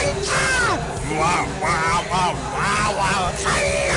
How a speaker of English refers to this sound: Another sign is excessive random yelling.